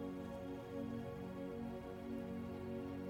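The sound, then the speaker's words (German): A large campfire crackles and hisses quietly and steadily, with a dense patter of small pops running continuously over a soft, low humming bed and no voices. “Du hörst die Geräusche des Feuers. Es knackt und zischt.”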